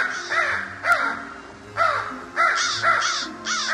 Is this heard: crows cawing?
yes